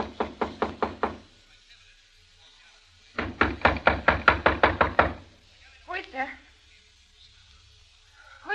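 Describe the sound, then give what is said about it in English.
Two loud bursts of rapid knocking on the door of room 212 at a small hotel called The Dynasty, about six sharp raps and then nearly ten, hard, with a brief muffled voice afterward. “A few seconds later, I knocked on the door.”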